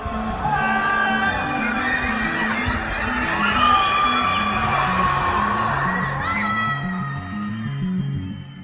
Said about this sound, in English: And some have taken to protesting against the measures from the confines of their homes, screaming and shouting from their windows and balconies.